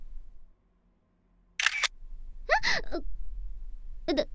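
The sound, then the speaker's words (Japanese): A camera shutter clicks a few times at irregular intervals, crisp, after a brief hush, with faint background noise between the shots. “旦那様、いきなりシャッターを切られたりしてどうされたのです？”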